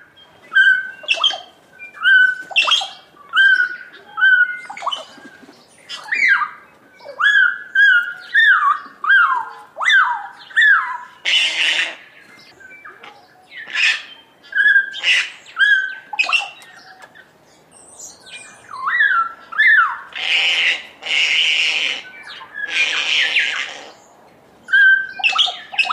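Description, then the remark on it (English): A busy mix of kaka and bellbird calls, among other species, at a bird feeding station: clear, ringing whistled notes interspersed with harsh, raspy screeches in bursts, overlapping almost continuously with no one speaking. “At a bird feeding station, we listen to the sounds of kakas, bellbirds, and other species.”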